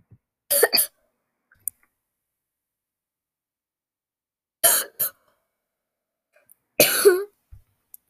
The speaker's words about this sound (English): I'm coughing way too much. Warning. The narrator to your podcast coughs a lot. They are a cougher.